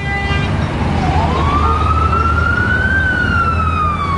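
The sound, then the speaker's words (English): A siren wails through traffic on 42nd Street near Times Square in New York, its tone sweeping slowly upward over a constant rumble of impatient cabs and engines, loud. “42nd Street sounds much the same as it ever did, with its steady flow of impatient cabs and wailing sirens.”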